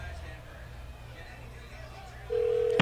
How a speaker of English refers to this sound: If your phone's ringing right now. Come on.